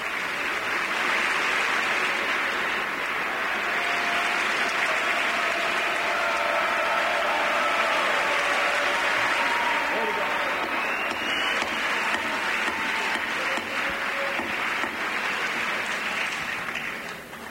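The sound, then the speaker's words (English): Sustained, dense applause from a large crowd in the U.S. congressional chamber before the President's address, steady and loud for the whole stretch with a faint murmur of voices beneath, tapering slightly at the very end. “I guess we could just listen in, because I think this is about to die down, the applause.”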